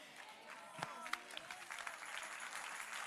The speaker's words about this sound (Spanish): Ay, si ese es el aplauso.